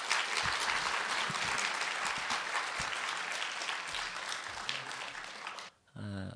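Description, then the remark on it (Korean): A church audience claps steadily in dense, crackling applause to welcome a guest pastor for nearly six seconds, then it stops abruptly and a man begins speaking. “이런 마음으로 우리 한번 박수로 환영했으면 좋겠습니다.”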